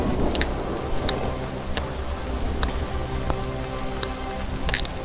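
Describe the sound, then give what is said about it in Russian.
Heavy rain pours down steadily, a dense hiss of water with scattered sharp drips and taps standing out on top. The downpour is constant throughout, with no voices. “Уже идет ливень. Уже идет дождь, хлещет.”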